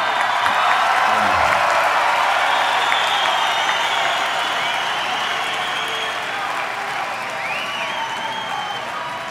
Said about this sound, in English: I know most of you are here, and it was we talked about pacing ourselves, and I think you've got more stamina than we do, and we applaud.